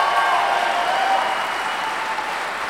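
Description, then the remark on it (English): A crowd at the Acoustic Stage in Hickory applauds the musicians steadily, a dense wash of many hands clapping at an even, fairly loud level that holds throughout with no voices breaking through. “Please give them another big round of applause.”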